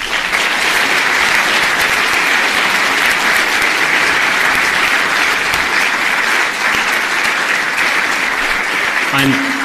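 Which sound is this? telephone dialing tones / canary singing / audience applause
audience applause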